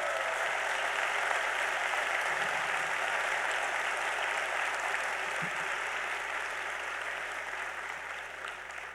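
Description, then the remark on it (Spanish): Sustained applause from a sizable convention audience honoring the 70 convention coordinators, a dense steady wash of clapping that holds strong throughout and eases slightly toward the end. “Un aplauso para ellos.”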